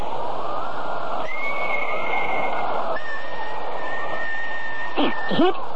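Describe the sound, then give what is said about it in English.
A long, low, eerie, mysterious-sounding whistle holds one steady note for several seconds, shifts to a slightly different pitch, then ends in a couple of quick swooping slides over a faint hiss. “Low, mysterious-sounding whistle.”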